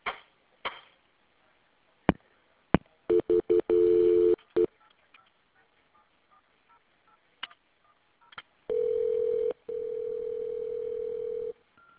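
Telephone line sounds with no talking as an emergency call reporting a shed fire is transferred: scattered clicks, a quick series of dialing tones, then two long, steady ringing tones on the line, fairly loud.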